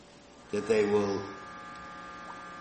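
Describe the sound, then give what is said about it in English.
A steady, low air conditioner hum drones through the whole stretch, with a short burst of a voice rising over it near the start before the hum carries on alone. “That they will not hear the air conditioner.”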